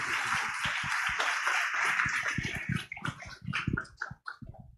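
An audience applauds to welcome an artist who is about to share his life story, in a dense, steady burst of many hands clapping, which after a few seconds thins out into scattered individual claps before fading away. No one speaks.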